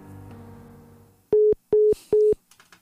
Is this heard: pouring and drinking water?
no